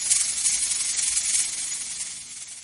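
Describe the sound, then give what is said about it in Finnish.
Continuous breathy hissing of real vipers, a steady airy rush that swells and fades slightly over a few seconds, moderately loud, with no voices. “Onko noin oikeita käärmeitä? On tietty! Ihania kyitä kato!”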